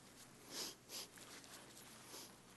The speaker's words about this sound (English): Better get rid of my sniffles.